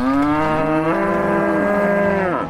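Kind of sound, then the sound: animal, brown Swiss cow mooing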